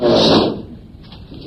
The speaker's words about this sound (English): This chair is breaking.